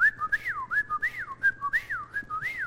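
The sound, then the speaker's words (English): A person whistles an imitation of a whippoorwill call, repeating a quick three-note rising-and-falling phrase over and over in a steady rhythm, clear and fairly high-pitched, with no talking. “You ever had a whippoorwill outside your house, middle of the night?”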